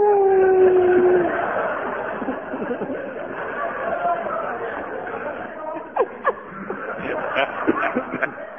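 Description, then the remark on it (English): A man briefly howls like a wolf, one steady rising wail lasting about a second, then several people chatter and snicker quietly in the background. “has taken to wandering around the Wiltshire villages of Horningham and Causeway at night, howling like a wolf in an attempt to stimulate wolves at the local safari park to mate.”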